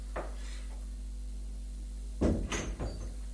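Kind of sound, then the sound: household object, door opening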